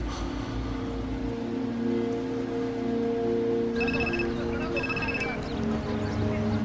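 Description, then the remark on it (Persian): A telephone rings in two short, bright bursts partway through, standing out over a steady low hum and muffled background voices. “مایکل، با چه تلفنی زنگ زدی؟”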